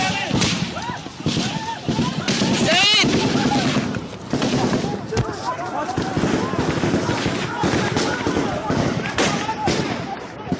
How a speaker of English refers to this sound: Those were the sounds of gunfire during a Friday attack on a military parade in Iran that left 29 dead and 70 wounded.